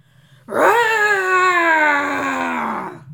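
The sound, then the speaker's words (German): A lion's roar rings out once, loud, held as one long tonal bellow for almost three seconds, sagging slightly in pitch before it stops abruptly. No one speaks. “Dann riss er sein Maul ganz weit auf und er brüllte so laut, wie er noch nie gebrüllt hatte in seinem Leben.”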